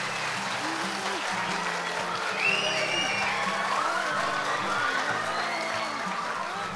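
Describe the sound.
Sustained applause from an audience at Instituto Académico Betel welcoming a guest who took part in La Voz Kids, a dense steady wash of clapping at a fairly constant loud level throughout, with some crowd murmur and faint voices blended in.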